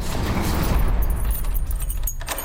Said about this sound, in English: Why are you fleeing the fort, taking all the keys and locking the door behind you, Commodore? Thereby trapping us in the fort.